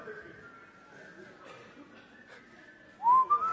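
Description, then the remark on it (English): Several people whistle a wavering tune together while playing pass the parcel, soft and steady at first, then one whistle swells suddenly louder and higher near the end over faint background murmur. “Pass the parcel and whistle the tune until it comes on.”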